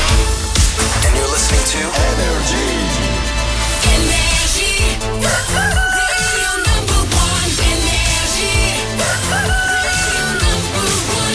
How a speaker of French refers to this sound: 6h, qu'on amène le coq et qu'on démarre cette journée.